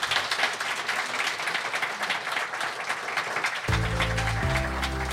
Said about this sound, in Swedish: Ge dem en applåd, gott folk.